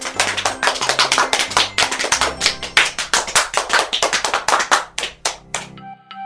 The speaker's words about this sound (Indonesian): Tepuk tangan untuk semuanya.